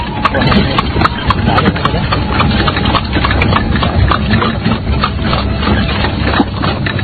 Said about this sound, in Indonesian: Sementara roda-roda kereta bergerak di atas jalanan berbatu menuju desa Pasuruhan Satu.